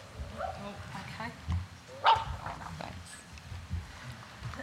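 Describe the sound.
A dog brought along by a presenter at a talk whimpers softly and lets out one sharp, high yip midway, over a low murmur of people talking.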